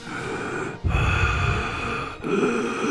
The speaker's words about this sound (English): No, it's not Darth Vader. He's just out of condition. It's a heavy breathing